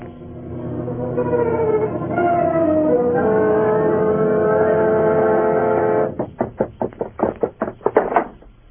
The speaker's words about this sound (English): What was that noise deep down below in the cellar, as if someone were dragging a heavy chain?